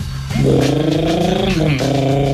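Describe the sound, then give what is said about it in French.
A voice imitates Philippe Noiret on an old motorbike with a loud, buzzing drone that holds a steady low pitch for about two seconds, briefly dipping and sputtering before revving on. “Philippe Noiret sur la vieille moto.”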